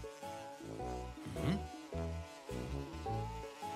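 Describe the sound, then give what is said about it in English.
A bumblebee buzzes loudly inside a house, its droning hum rising and dipping in pitch through several swooping passes, with no voices over it. “A bee chased us into the house.”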